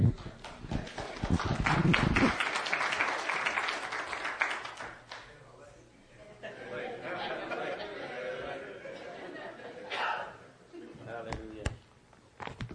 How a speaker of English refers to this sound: I was going to be upset if you didn't start cheering.